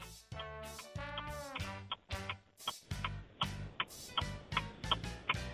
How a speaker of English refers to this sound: The clock is ticking.